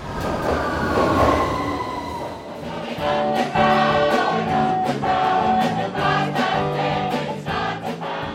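A London Underground Northern Line train rumbles loudly through Nine Elms tube station, a new stop on the line, a rising whine of motors building before a run of sharp, rhythmic wheel clacks over the rails.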